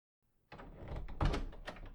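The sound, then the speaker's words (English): A door is pushed closed, starting with a scraping, rattling movement that builds into one solid thud, followed by a brief creaky settling. No voices. “Close the door and keep it shut.”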